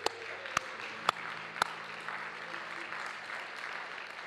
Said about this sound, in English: Could you clap your hands to him?